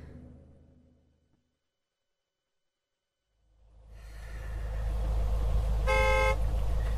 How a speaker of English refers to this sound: Oh, look at this blooming traffic. It's not even moving.